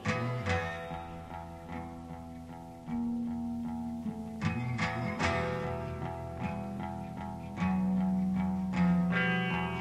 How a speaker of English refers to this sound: sounds like rock and or roll.